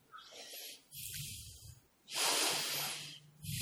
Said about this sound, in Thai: ลมหายใจเข้าลมหายใจออกนี้มีครั้งเดียวในชีวิตนะที่กำลังเข้ากำลังออกเนี่ยครั้งเดียวในชีวิตนะไม่มีอีกต่อไปนะ